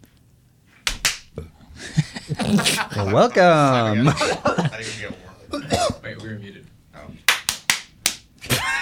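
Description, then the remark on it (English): A couple of sharp hand claps, then a voice speaks a drawn-out greeting, followed by a quick burst of five or six loud, crisp claps in an uneven rhythm. “Should you clap?”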